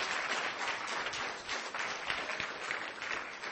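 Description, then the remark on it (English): A steady burst of audience applause at the close of a meeting, many hands clapping in a dense, even patter at moderate loudness, sustained throughout without a clear voice on top. “So give him a big applause.”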